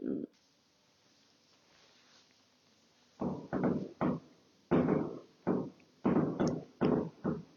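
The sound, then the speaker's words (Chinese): Fireworks set off outside at night at a holiday resort hotel bang in a rapid, irregular run of about nine muffled booms after a brief pop and a few seconds of near silence, each burst loud and broad-sounding. “我发现现在发现这种住这种度假宾馆的不好的地方，现在还在放烟花，这都几点了？”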